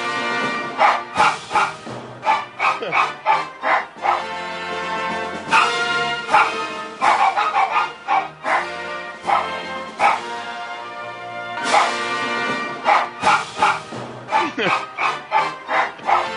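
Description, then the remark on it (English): A poodle barks and yips over and over in quick, loud bursts, barking along with music that plays throughout and keeps a steady rhythm beneath the dog. “that's Teddy the poodle barking to Hail Britannia”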